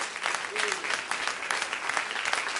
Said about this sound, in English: Amen. Let's give him a hand clap of praise tonight. Hallelujah.